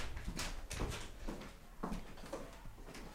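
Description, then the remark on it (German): The attic door of the house where Otto Frank, Anne Frank's father, lived with his second wife after the war is opened with a series of soft knocks, scrapes and rattles spread over a few seconds, fairly quiet against a faint hiss, with no one talking. “Das ist jetzt diese Türe zum Estrich.”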